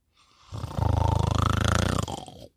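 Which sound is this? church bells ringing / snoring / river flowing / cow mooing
snoring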